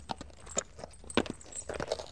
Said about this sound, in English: I'm on a horse. Can you hear the horse?